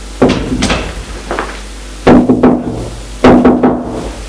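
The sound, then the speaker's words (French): Knocking on a bedroom door: a few sharp raps, then louder clusters of three knocks, firm with brief pauses between groups. No voices. “Il vient tout juste d'entrer que l'on frappe à la porte.”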